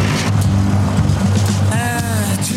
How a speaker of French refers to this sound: C'est un tracteur que je vous vends là, hein. C'est pas une berline. Il y a un moteur, non ?